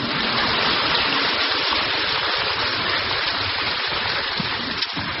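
A crowd applauds with a dense, steady patter of clapping that stays loud and even for about five seconds, with no voices over it.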